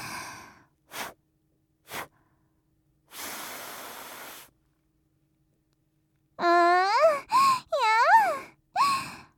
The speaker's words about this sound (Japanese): ほーら、マスク越しに息も吹きかけてあげますね。本当はしないんですけど、お兄さんにはサービスですよ。